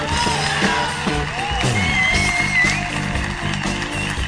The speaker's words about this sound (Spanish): Un aplauso, por favor,